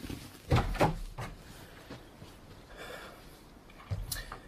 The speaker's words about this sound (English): Fine. Let me get the door.